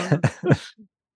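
Three quick, throaty coughs in a tight cluster, fairly loud, followed by a faint low grunt and then quiet.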